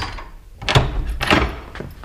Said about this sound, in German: Mach die Tür auf und verhöhne mich nicht mit dem Klopfen. Der Schlüssel steckt. Schließ auf